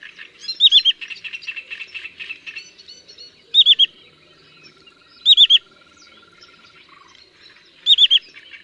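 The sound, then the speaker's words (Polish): A sandpiper migrating through Poland gives a whistled call of three quick syllables, repeated four times at even intervals, two higher notes followed by a lower one, unlike the redshank's call, over a background of busy chirping from other birds early on. “Jego głos, w odróżnieniu od głosu krwawodzioba, składa się z trzech sylab. Po dwóch sylabach wyższych następuje jedna niższa.”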